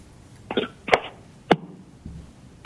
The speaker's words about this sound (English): This is a, in the middle of a sneeze.